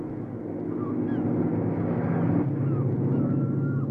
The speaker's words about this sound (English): A plane.